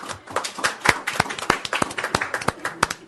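A short round of applause from a small group, sharp hand claps overlapping with a few louder, evenly spaced claps standing out over a steady patter, with no talking.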